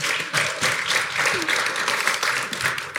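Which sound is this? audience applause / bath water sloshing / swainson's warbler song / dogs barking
audience applause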